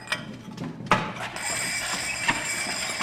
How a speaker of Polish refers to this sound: Ostrzałka napędzana korbą.